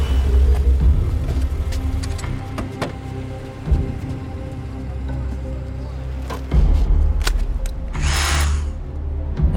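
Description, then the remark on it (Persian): An electric saw used for cutting pipe runs continuously with a steady, droning motor whine, its pitch shifting slightly a few times, before a harsh, high-pitched cutting screech flares up near the end. “دستش اره برقی چیزی؟ برای بریدن لوله است.”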